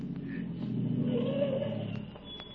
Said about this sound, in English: And then I heard another sound on the road. There was a car coming.